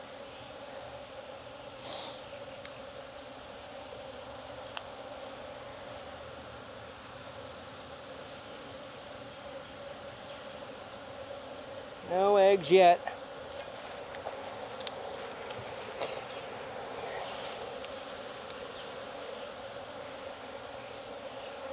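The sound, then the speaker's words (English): A steady drone of many honeybees buzzing around an open hive frame with hatching brood from a previously queenless colony, continuous throughout, with a brief louder burst of wingbeats midway and a few quiet spoken words. “Food, I mean, these are gonna be a little bit more honey bound because they were queenless. Bees without it.”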